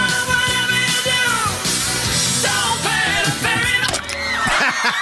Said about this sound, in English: Ouch. A lot of screaming. Yeah, there are two boats. Lots of screaming. There are two boats. They taped the other one, too.